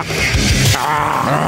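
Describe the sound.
A person imitates a lion's roar, a loud, raspy growl that holds for about a second and a half, shifting in tone partway through with no other talking.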